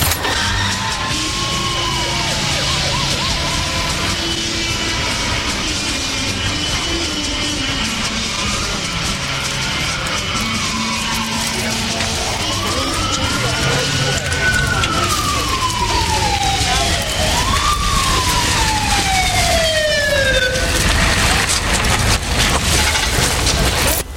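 An ambulance siren wails loud, its pitch sweeping up and down in long repeated arcs over a steady rumble of engine and road noise.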